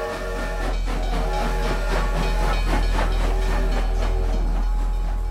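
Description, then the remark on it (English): A train, one of eight Dowie rented to carry his followers to New York in October 1903, rumbles steadily along the rails, with a deep continuous roar, hissing steam and faint rhythmic clatter from the wheels, sustained throughout. “Then Dowie rented out 8 trains and packed them with his followers. Together, they all set off for New York.”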